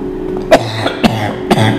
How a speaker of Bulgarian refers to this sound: Тогава чуй кашлицата на стария модел. Един стар модел почва да кашля.